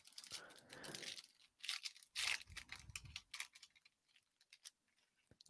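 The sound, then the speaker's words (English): Crinkling, rustling handling of six foil packs from a box of Elite trading cards being shuffled, with bursts of crisp crackle and soft taps, uneven and quick, no talking. “Six packs. Shuffle them up.”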